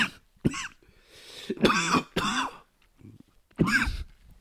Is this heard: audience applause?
no